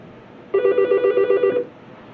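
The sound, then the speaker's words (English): A single burst of telephone ringing lasting about a second from a telephone located in the room, a loud, fast-warbling electronic trill with bright overtones that stops abruptly. No voices are heard, and a faint background hiss remains. “The sound that you hear is the sound on the tape is the sound of a telephone which is located in the room, and we're going to disconnect it.”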